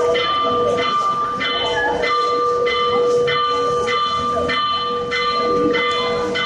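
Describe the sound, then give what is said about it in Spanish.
The bells of Mondoñedo Cathedral peal at seven minutes past 1 p.m. in a steady rhythm, a strike about every half second over a constant ringing hum of overlapping tones, loud with no voices. “Vamos a escuchar las campanas, las de la Catedral de Mondoñedo.”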